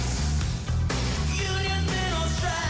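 A short burst of a song plays loudly, with a heavy repeating bass beat under bright sustained melodic notes, and no voices.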